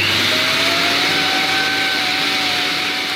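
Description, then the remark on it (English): A vintage 1950s Electrolux vacuum cleaner runs steadily, a loud, constant motor whine with a broad airy hiss and a faint tone that slowly rises in pitch. No voices are heard. “I literally just bought a vacuum cleaner off Marketplace this morning that was like from the 50s”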